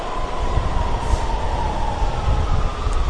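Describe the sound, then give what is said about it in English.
A train at a station platform rumbles steadily, a dense low roar with a faint high hum running through it, continuous for the whole stretch with no voices. “How full does that train look?”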